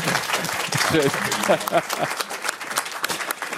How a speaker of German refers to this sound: Also ein Applaus ist das auf jeden Fall.